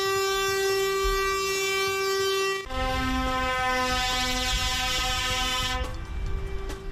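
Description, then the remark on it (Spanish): Loud, sustained air horns of protesting trucks, in a slow march of up to 200 trucks on the A2 motorway and the M50 after a gathering in San Fernando de Henares, blare continuously, one long tone shifting to a different pitch partway through as other horns overlap, over a rumbling engine and traffic background. “Sí, porque lo que ha comenzado siendo una concentración en San Fernando de Henares se ha convertido en una lenta marcha de hasta 200 camiones por la autopista A2 y la M50.”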